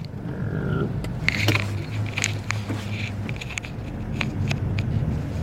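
A car being parked in winter: a steady low engine rumble runs throughout, with scattered crunching and sharp clicks over it, and no one talking.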